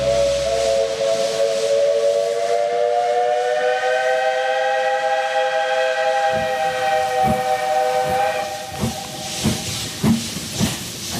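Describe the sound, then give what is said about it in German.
A steam locomotive on the newly completed railway from Nordhausen to Wernigerode, Germany, in March 1899: a long, harmonic whistle sounds over a broad hiss of steam, then rhythmic chuffing puffs start up as the engine begins moving, loud. “Sie schnauft.”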